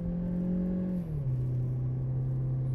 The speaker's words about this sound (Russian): Двигатель слышно просто, ну, вот, от снизов до верхов, то есть во всем диапазоне ты его слышишь. Шумки нету, по сути, вообще.